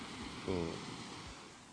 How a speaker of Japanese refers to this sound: 皆さん聞こえますか、この波の音が。これは海ですけど、